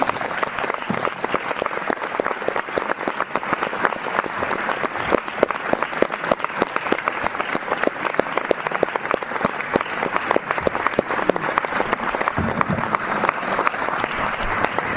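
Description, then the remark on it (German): An audience claps steadily for the whole stretch at the end of an event with Hanna Schygulla, a dense, even patter of many hands with no voices standing out above it. “Ich habe eine Freundin, die hat zu mir gesagt, warum kannst du Applaus so schwer aushalten?”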